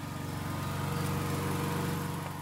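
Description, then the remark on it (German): A diesel generator powering a chainsaw runs at a steady idle among nettles and gravestones, its low, throbbing engine hum pulsing evenly and holding a constant level throughout, with no voices. “Georg Gietz steht inmitten von Brennnesseln und Grabsteinen neben dem Dieselgenerator, der den Strom für die Kettensäge produziert.”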